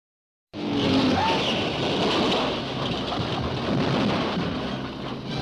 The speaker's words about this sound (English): At Indianapolis, super-powered cars thunder toward the starting line, and they're off in the world's greatest auto racing classic. Averaging as high as 129 miles an hour, the speedsters whiz around and around in a race that's 500 miles long,